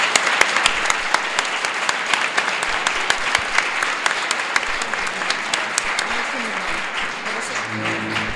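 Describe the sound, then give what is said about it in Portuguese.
An audience applauds steadily for a person who did much for the institute, a dense crackle of many hands clapping that holds for several seconds, with a faint voice starting to speak near the end as the clapping continues. “Entón, pediríavos, por favor, un aplauso a esta persoa que tanto fixo por este instituto.”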